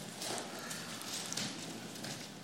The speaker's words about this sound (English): Even in the digital age, I love the sound of rustling papers.